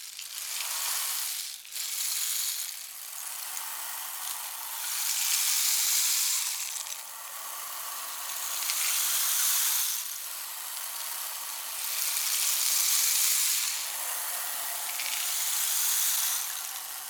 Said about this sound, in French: Les nuages couvrirent le ciel, le vent se leva. La pluie tomba de plus en plus fort.